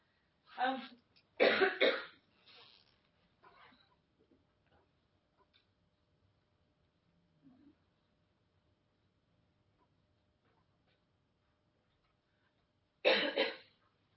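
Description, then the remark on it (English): A speaker giving a presentation coughs in a quick cluster of three loud coughs, then a soft throat clear. After a long near-silent stretch, one more hard cough breaks through. No one speaks. “so I apologise for my coughing up front.”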